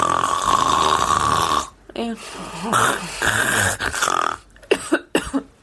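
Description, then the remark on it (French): A woman loudly imitates her own snoring with harsh, rasping breaths: a long drawn-out snore, then several shorter guttural snorts in an uneven rhythm, loud. “Puis tu ronfles pas un peu, hein, tu ronfles comme une grosse vache, vraiment.”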